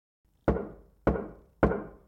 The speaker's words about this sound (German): Hatte es da eben geklopft? Pieper machte den Staubsauger aus. Ist da einer an der Tür? Fragte er sich, und in diesem Moment machte es schon wieder tock, tock, tock, und Pieper hörte eine Stimme rufen.